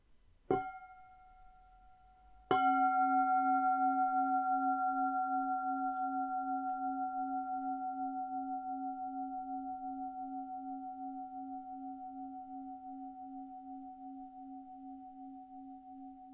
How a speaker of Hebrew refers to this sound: תקשיב לצליל הפעמון.